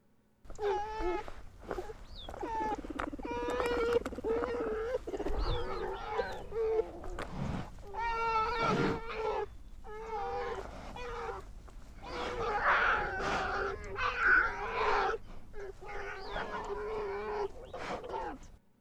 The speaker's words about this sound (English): Park rangers at Denali made a recording of a mother grizzly bear with her two cubs that I want to share with you now.